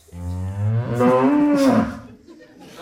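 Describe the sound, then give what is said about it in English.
A single long, loud cow moo, rising and then sliding down over about two seconds before trailing off into a quiet background. “I don't like cows.”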